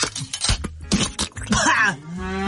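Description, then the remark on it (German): A spotted cow lets out a few short, strained moos that sound croaky and hoarse, with rough throaty grunts and gurgles between them, fairly loud, while its throat is being looked into. “Hier, Ihre Kuh hatte einen Frosch im Hals.”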